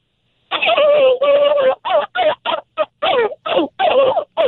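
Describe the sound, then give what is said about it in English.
A contest finalist imitates a turkey gobble as a last try for the judges: a loud run of about ten quick, throaty, warbling bursts with wavering pitch, the first ones longer and the rest choppy and short. “You know, it's like a barking turkey.”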